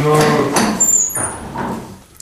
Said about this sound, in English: By the way, is that a cow closing a door? Yes, it is. It is. It's a rare recording. It's the first cow closing a door audio.